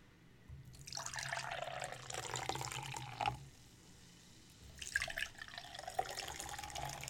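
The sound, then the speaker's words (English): Beer pouring steadily from a can into a glass in two splashy bursts, the first about three seconds long, then a short pause before a second pour with a few bright drips. “This does give good pour sounds, though.”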